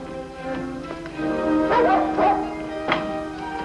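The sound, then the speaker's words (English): A dog barks several times in short bursts, with whining, whimpering yelps in between, over a steady background hum. “There ain't no more dogs.”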